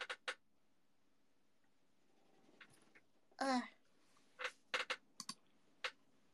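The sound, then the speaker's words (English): A loose office chair, with one of its screws loose, gives a short, strained creak in the middle, surrounded by scattered sharp clicks and ticks from its frame shifting, with nobody speaking. “I think one of the screws is loose, guys.”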